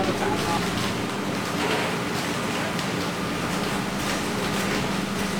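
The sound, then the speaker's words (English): Farmers' tractors idle outside a small village olive press in a steady, continuous low engine rumble, with a broad wash of outdoor noise over it, unchanging throughout. “Just arriving at the small olive press in the village, farmers' tractors outside.”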